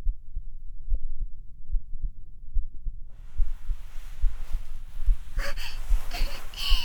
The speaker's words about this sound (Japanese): ほら、聞こえてるでしょ。すっごいドキドキしてるの、わかる？